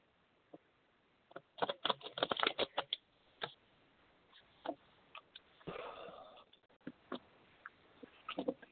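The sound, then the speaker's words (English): Quiet shuffling of a fairy card deck before cards are pulled for a reading: bursts of crisp taps and slaps, a short riffling rush partway through, then scattered soft clicks. No one speaks. “And I'm just shuffling right now, so 1 second, and I'm going to pull some cards for you.”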